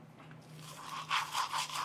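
Wet scrubbing of a toothbrush against teeth as a man cleans his teeth in his bathroom, a quick run of rhythmic back-and-forth strokes that grow a little louder toward the end, with no voices.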